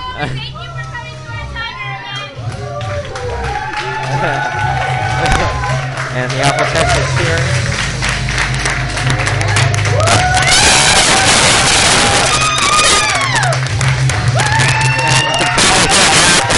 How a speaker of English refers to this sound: They're going crazy here. Crazy. Everybody is, all the Apple Techs are lined up, cheering.